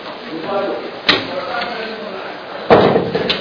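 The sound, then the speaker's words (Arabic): A door closes twice with sharp thuds, the second one louder, while voices murmur in the background. “هذا الباب ممكن يسكروا تسكرون نقول إخوان خلي يقصرون تسهموا شوي.”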